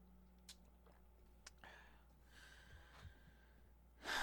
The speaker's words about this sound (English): Let me just take a sip of water. Follow that by some tea.